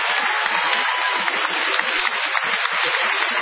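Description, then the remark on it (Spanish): An audience in a small shed venue on Gorriti street applauds steadily, a dense, even wash of many hands clapping at a sustained level throughout, with no voices standing out. “Extendamos el aplauso para saludar a”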